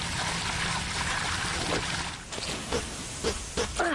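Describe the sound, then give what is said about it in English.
Water pours steadily with a broad, splashy hiss for a couple of seconds, then trails off into a few drips and trickles. “Need some more water.”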